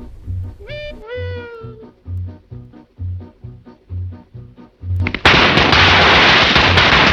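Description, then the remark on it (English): After a rhythmic low thumping and a brief meow-like wail, a long strip of firecrackers, lit from a cigarette, suddenly erupts into a loud, dense, continuous crackle around a man's fast-moving feet, filling the final two seconds. “He now has a long strip of firecrackers, which he lights from the cigarette.”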